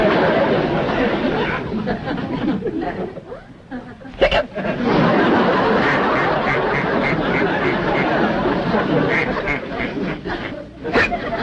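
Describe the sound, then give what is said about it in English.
A pet duck named Charlie quacks loudly in a rapid, nearly continuous string of raspy calls with a few sharper bursts and only brief pauses. “Looks like we got a drunk duck on our hands.”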